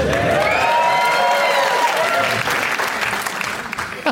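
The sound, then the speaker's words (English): A crowd applauds a player's choice of the Coen Brothers film The Big Lebowski, clapping steadily for about four seconds, a dense wash of clapping with some voices and cheers mixed in, loud throughout and easing slightly toward the end. “I love that people are applauding choices.”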